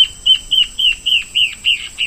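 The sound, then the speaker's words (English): A male antbird's territorial song: a rapid, steady series of about eight clear, evenly spaced whistled notes, loud, with no talking. “Now, here's the territorial song of a male from the second species.”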